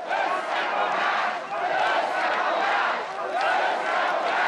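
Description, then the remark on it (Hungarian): A large crowd at a Hungarian opposition rally loudly chants "összefogást" (unity) in unison, the same shouted word repeating in a steady rhythm over a continuous roar of voices, delaying Attila Mesterházy's speech. “Hosszú ideig nem tudta elkezdeni a beszédét, mert a tömeg azt skandálta, összefogást.”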